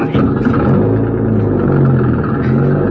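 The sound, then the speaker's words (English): A car engine is started up to drive down a roadway, rumbling loudly and steadily, its deep droning tone swelling slightly as it revs, with no pauses over the few seconds. “Yeah, and there's the car. Start her up and go down the roadway.”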